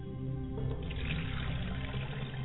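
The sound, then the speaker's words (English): A steady stream of liquid, a libation, pours and splashes continuously onto the ground, moderately loud, with no voices. “And we pour this libation to the ground for a quest for the tribe.”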